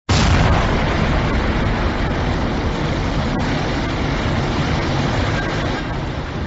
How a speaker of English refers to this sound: The loudest sound spread over Manhattan, breaking the sound barrier, traveling from the towers of the streets in waves like a bomb went off, jerking me back with an unexplainable force. Building started to explode as rescue team was pulling me away.